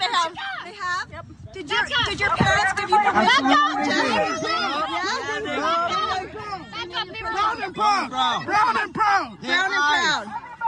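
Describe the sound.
A crowd of students surrounding the person filming yell at them all at once, loud, with overlapping shouting voices forming a dense, continuous clamor that never lets up.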